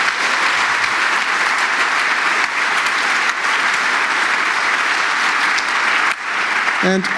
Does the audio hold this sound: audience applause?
yes